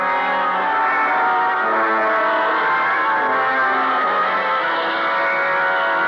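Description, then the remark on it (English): A shrill, dramatic operatic scream from the death scene of an opera, played from a record on a turntable, loud and sustained without a break for several seconds, its harsh high tones blurred by an echoing, distorted quality. No one talks over it. “We shut it off because it got too noisy in the death scene from that opera, huh?”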